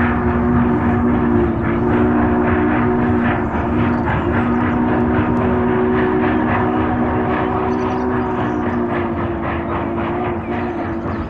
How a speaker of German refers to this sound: Alles einsteigen, die Fahrt wird fortgesetzt. Der Schornsteinfeger packte Leiter und Kehrbesen zurück auf den Pferdewagen und gemeinsam mit der geflügelten kleinen Frau sah er dem abfahrenden Zug nach.